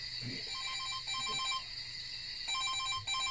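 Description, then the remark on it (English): A phone rings with an incoming call, its electronic tone pulsing in short repeated bursts, steady, with no voices over it. “You mute the phone and place it on the nightstand.”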